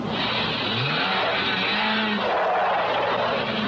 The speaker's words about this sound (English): The jeep gets stuck in a sand drift.